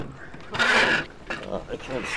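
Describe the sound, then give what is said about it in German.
A discarded metal washing machine scrapes and clanks as activists shove and heave it onto a Union Jack laid on the sidewalk in Thornwood Gardens, Holland Park, London: one loud grinding burst followed by softer rattling knocks, with indistinct voices murmuring underneath. “Aktivisten der Kampagne Kensington Against Dirty Money hiefen eine ausrangierte Waschmaschine auf einen Union Jack, den sie auf dem Gehsteig ausgelegt haben.”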